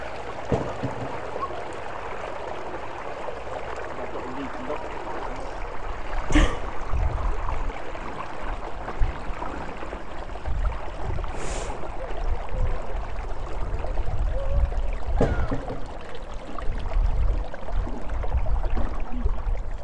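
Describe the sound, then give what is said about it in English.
Water rushes and gurgles steadily through a canal lock paddle opened slightly to let the water level start going down, a continuous churning wash with a few sharp knocks and clunks cutting through it. No one speaks. “Just a titchy bit, enough to let the water start going down.”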